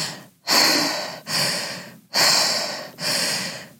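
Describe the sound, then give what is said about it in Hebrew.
Four loud, breathy inhales and exhales follow one another in a steady, connected rhythm with barely any gap between them, with no talking, as a woman demonstrates circular breathing, a rebirthing breath-therapy technique of breathing without pause. “זה שיטה של טיפול בנשימה מעגלית, שזה פשוט נשימה ללא הפסקה. אני יכולה גם להדגים.”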